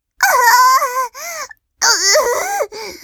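A woman in labor cries out while pushing, in loud, strained wails, two long sobbing bursts with a wavering, rising and falling pitch, separated by a short gasp-like pause and no speech.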